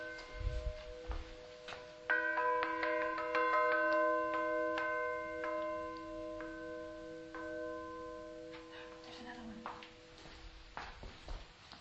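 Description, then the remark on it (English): A huge iron church bell is struck and hums with a deep, sustained ring that slowly fades over several seconds, with a few sharp knocks and clatters around it. “It's huge iron bells.”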